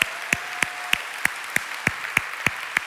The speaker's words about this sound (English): So that hand clap was for Jesus.